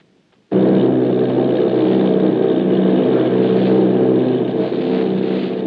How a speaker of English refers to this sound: Army bombing plane V-843 off Bayonne, New Jersey. Lieutenant Vogt commanding 8 bombers, reporting to Commander Fairfax Langham Field.